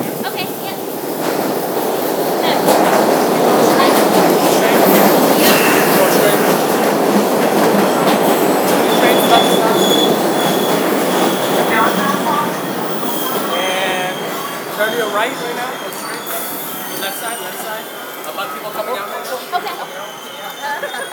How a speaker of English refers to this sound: Red line to Harvard Square. Harvard Square, you're on it right now. The train is about to come right now.